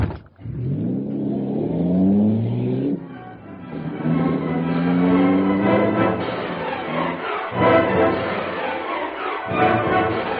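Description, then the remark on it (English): A car engine revs hard in repeated rising surges, then keeps roaring at high pitch as the vehicle speeds off while being shot at, loud with some clattering underneath. “Hey, that bullet hit the car.”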